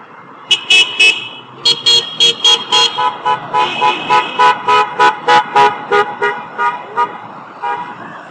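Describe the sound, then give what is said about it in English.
Many car horns on Georgia Avenue, in a hospital zone, honk at protesters in a rapid, overlapping series of short, loud toots, with steady street noise underneath and no talking. “Honking cars to the freepers on Georgia Avenue. Some honking for us too.”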